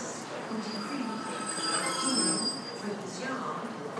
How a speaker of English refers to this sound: Okay, end of the train whizzed past us there.